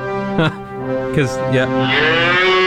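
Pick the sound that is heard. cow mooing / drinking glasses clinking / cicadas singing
cow mooing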